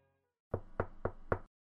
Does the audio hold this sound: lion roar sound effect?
no